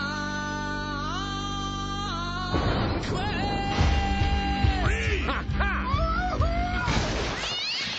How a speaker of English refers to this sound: You made the cat angry. You do not want to make the cat angry.